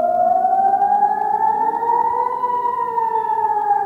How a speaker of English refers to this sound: The attacks on Tuesday sent Israeli civilians running to bomb shelters as air raid sirens wailed.